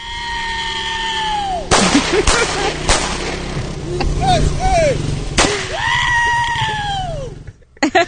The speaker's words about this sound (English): and he's shooting guns up in the air, okay? You don't see that very often in downtown San Francisco.